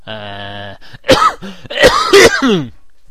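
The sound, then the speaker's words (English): A person with phlegm in their throat and a lingering cough clears their throat with a low, rumbling rasp, then lets out several sharp, loud coughs in quick succession, with no talking. “For one thing, there's phlegm in my throat.”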